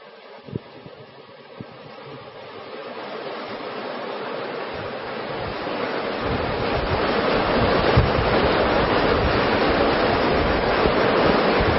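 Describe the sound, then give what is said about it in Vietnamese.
Heavy rain pours down during a spoken teaching, so loud that listeners cannot hear the speaker, in a dense, steady hiss that swells louder over the first several seconds and then holds at a constant roar, with a few faint knocks early on. “Ờ, các vị thiền long đã mưa lắm quá, mưa to quá giảng không, mọi người không nghe thấy, thôi giảm bớt đi.”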